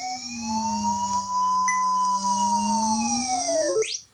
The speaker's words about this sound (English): I don't know if that came through real well on the Skype, but there are two tones there simultaneously. Remember I said everywhere that the curve touches that vertical sweep, you get a tone.